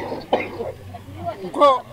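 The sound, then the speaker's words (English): A 66-year-old man with an asthmatic cough coughs twice, rough and wheezy. The second cough is louder and more strained, with raspy breathing in between. “is 66 with a wheezy, asthmatic cough.”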